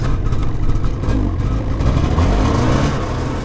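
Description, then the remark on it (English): A snow machine carrying a group of science students on a trip out onto the Chukchi Sea. Its engine revs with a loud, continuous low rumble, the throaty drone rising and falling slightly in pitch throughout, with no voices. “George and Mahoney are leading a group of science students on a snow machine trip out onto the Chukchi Sea.”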